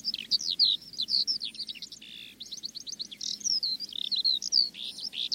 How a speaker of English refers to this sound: It didn't cure cancer, it didn't solve my problems, but what it did do was suddenly give my life a little bit of perspective, hearing that rolling, cascading song and watching this bird hovering just, you know, 30 or 40 feet above my head.